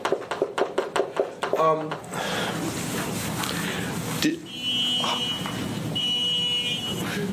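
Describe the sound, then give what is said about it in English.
Car noise from outside: a quick run of rapid pulsing bursts, then a steady broad roar with faint high-pitched beeping tones rising over it, fairly loud. “Oh, it's just a car.”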